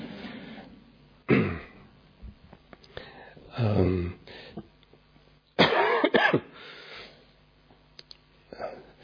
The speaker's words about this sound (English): So I have a bit of a cold, so you can meditate and I'll just cough a lot.